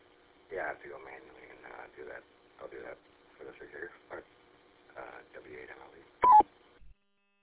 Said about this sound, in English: but turn off your Roger beep, please.